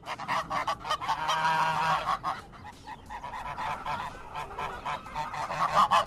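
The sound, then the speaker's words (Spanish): Hens squawk harshly and noisily, their raucous calls overlapping in a dense, continuous racket that stays loud throughout, with no one speaking. “Bueno, son unas gallinas un poco cloacas.”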